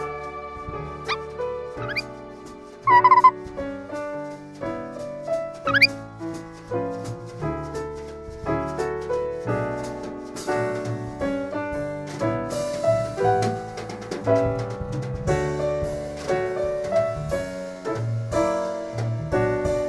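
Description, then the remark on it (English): A call of the orchestral, a rare African bird that can mimic every instrument in the orchestra at once: dense, sustained instrument tones layered together, with a few quick rising chirps early on, loud and continuous throughout with no talking. “For those of you who haven't heard Season 1, The Orbiting Human Circus of the Air, the orchestral is a rare African bird that can mimic every instrument in the orchestra at once.”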